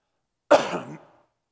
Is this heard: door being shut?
no